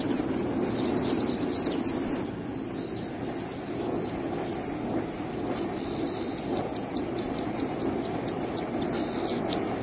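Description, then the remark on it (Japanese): A bird calls in quick, high-pitched chirping bursts as it flies up and then down on an island, a rapid string at the start and another near the end, over a steady low outdoor rumble. “ピッピッピッと舞い上がり、チッチッチッと降りる。”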